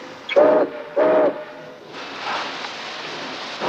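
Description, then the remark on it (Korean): Two loud, steady whistle blasts from freight train No. 19 as it departs again for Portland, each about a third of a second long, then a low rumble of rolling rail cars carries on to the end. “셰크의 화물열차 19호는 포틀란드를 향해 다시 출발하고 넘버원은 자신이 다시 이 열차에 탄다고 예고합니다.”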